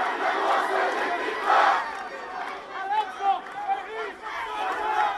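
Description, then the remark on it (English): An angry crowd gathered for the funeral of a 16-year-old Palestinian boy, Mohammed Abu Khadir, shouts and chants together, loud and continuous, with overlapping cries rising and falling in waves and no single voice standing out. “Today, angry crowds gathered for the funeral of a 16-year-old Palestinian boy, Mohammed Abu Khadir.”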